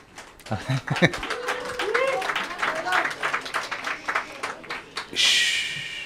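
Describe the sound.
Light, sparse clapping from a few hands, irregular claps spread over several seconds, with faint voices underneath and a brief hissing burst near the end.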